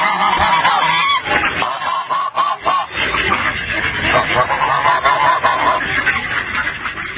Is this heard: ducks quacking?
yes